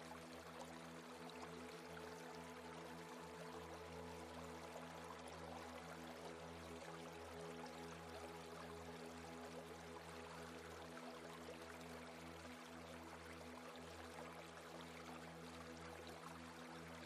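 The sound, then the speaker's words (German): A stream flows steadily and continuously, an even rushing wash of water with a faint low hum underneath, no voices and no breaks for the whole stretch. “Einfach hier sitzen, das Wasser fließt”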